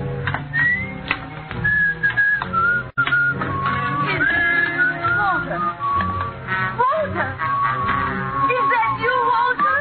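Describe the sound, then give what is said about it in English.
A son whistles his familiar signal to his mother, a short, bright tune in several clear phrases, fairly loud, over a busy background of murmuring voices. “You still remember my whistle, eh?”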